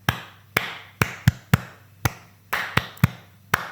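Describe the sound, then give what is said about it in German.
Sharp hand claps, about ten in all, beat out a repeating slow-slow-quick-quick foxtrot pattern with no voices over them. “Ich sehe dich gerade nur in der Hand klatschen.”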